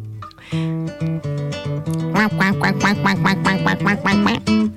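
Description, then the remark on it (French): A duck quacks over and over, a few spaced nasal calls giving way to a fast, steady run of loud quacks with no talking. “Viens le canard, une patte ici, une patte là. Viens le canard afin de voir ce qu'il y a.”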